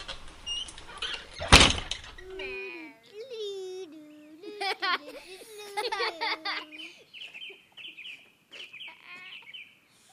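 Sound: door being shut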